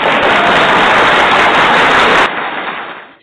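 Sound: round of applause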